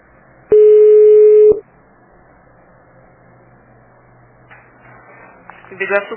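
A single loud, steady telephone line tone sounds for about a second after a dropped call to Biguaçu Transportes, then cuts off into quiet line hiss, with faint muffled noises near the end.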